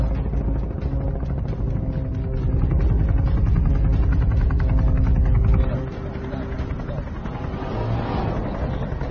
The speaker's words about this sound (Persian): ما میخواییم بریم تو ابر آقایون. هیچ کس تا حالا یه هلیکوپتر رو تا این حد بالا نبرده. پس کمربندها رو محکم ببندیم.